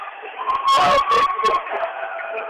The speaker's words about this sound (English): Got some spirit on the court there. Some of the boys' team members come through yelling Huna and waving.